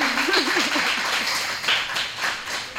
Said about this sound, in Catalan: Podeu aplaudir després d'aquesta